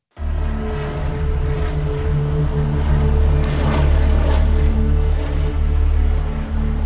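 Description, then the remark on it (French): A helicopter approaching the Luynes prison at 4 pm: its engine and rotors drone loudly and steadily, a dense low mechanical hum with whining overtones that grows slightly stronger as it continues. No one speaks. “Il est 16h quand un hélicoptère s'approche de la maison d'arrêt de Luynes.”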